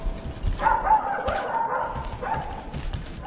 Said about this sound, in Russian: А щенок несся рядом с ним и весело лаял.